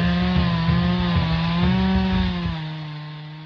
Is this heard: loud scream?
no